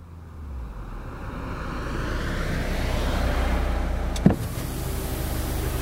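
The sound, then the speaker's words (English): A car rolls up with a steady engine and tyre rumble, then a short sharp clunk as it stops at a house while the motor keeps running. No one speaks. “One day, a car stops at Colin's house.”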